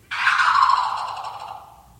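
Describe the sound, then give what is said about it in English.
A person in a bird-call imitation contest in Alabama imitates a bird call: one loud, sustained, shrill cry that starts abruptly and slides downward in pitch, trailing off over about two seconds with no other voices. “Yeah, it's one of those contests bird? Where you have to imitate something.”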